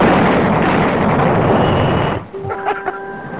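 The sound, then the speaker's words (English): A loud, sustained cartoon explosion in a Bugs Bunny cartoon, as Bugs blows someone up, roars for about two seconds, then cuts off abruptly into a brief ringing, tonal aftermath. No voices are heard. “Bugs blows him up. Business is booming.”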